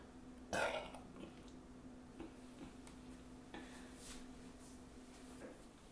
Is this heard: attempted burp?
yes